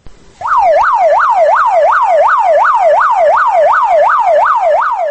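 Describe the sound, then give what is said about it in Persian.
A loud ambulance siren, on an ambulance heading toward the hospital in Khujand, Tajikistan, wails in rapid, regular rising-and-falling sweeps, about three per second, steady throughout with no talking. “ماشین یاری طبی تجلی صدا می داد که سوی بیمارستان خوجند حرکت می کرد.”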